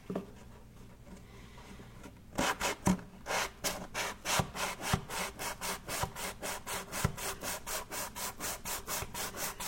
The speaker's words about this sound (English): I love working with these on surfaces like this. These sanding blocks or sponges or whatever.